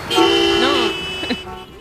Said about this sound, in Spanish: Eso, lo que sonaba, los sonidos de los coches.